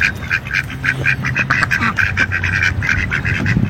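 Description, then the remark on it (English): Repeated nasal quacking from several ducks making a mating call, loud, in quick overlapping bursts with a steady background murmur of more quacks and low honks. “Ducks, yeah.”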